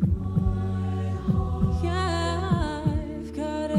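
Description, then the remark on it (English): A vocal percussionist in an a cappella group makes a soft, low vocal thump imitating a heartbeat. It pulses steadily beneath sustained, layered a cappella singing as the song fades out after a big build, staying subtle in the background of the held chords. “I put in just like a little really subtle heartbeat that's kind of going in the background as the block is fading out”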